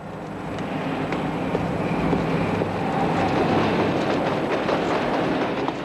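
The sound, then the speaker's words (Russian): A metro train rolls across an iron viaduct over the Seine, a metro bridge above with a bridge for cars and pedestrians below. A steady, loud rumble of wheels with sharp metallic clicks and clatters scattered throughout, no voices. “Итак, виадук через Сену. Сверху метромост, снизу мост для машин и пешеходов.”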